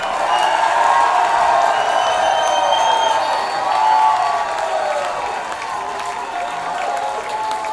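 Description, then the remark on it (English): A crowd applauds and cheers steadily for a band, a dense wash of clapping with whoops and shouted voices rising over it for the whole stretch, easing slightly toward the end. “Please give it up for ….”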